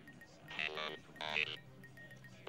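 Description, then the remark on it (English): A telephone at the KAOS radio station in Los Angeles rings twice for call-in requests, two bright, buzzing bursts of trilling tone about half a second each, separated by a short pause, with a low hum underneath and no voices. “Let's go to the telephones now and take a request.”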